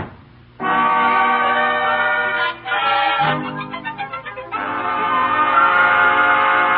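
A train horn blares loudly in long sustained blasts, broken by a brief pause and a stretch of rhythmic pulsing like a moving train, then sounding steadily again. No voices.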